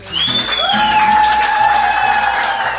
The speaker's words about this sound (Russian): Это был рыцарь пюпитра и король баре Роман Раменев. Бурные аплодисменты!